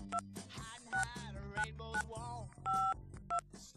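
A quick series of touch-tone dialing beeps as a telephone number is dialed, about seven short dual-pitched tones in an uneven rhythm over a faint background hum, with no one speaking.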